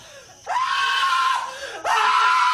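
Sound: man screaming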